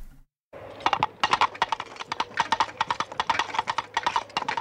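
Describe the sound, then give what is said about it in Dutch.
Rapid, rhythmic clip-clop knocks like a horse galloping past, fairly loud, continuing steadily for several seconds with no talking; the hoofbeats are imitated rather than made by a real horse. “ik hoor dus een paard voorbij lopen, galopperen. Mm-hmm. Maar dan nagemaakt geluid van een paard.”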